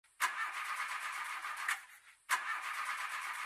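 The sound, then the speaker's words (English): A new car's engine turns over and runs with a steady mechanical roar, cuts out briefly, then starts up again abruptly and keeps running. No voices. “I'm in my car.”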